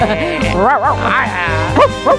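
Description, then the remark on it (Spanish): A person imitates a dog barking with a run of loud, yelping vocal barks and rising-falling whines, several in quick succession with short gaps between them. “¡Qué bien ladro, eh!”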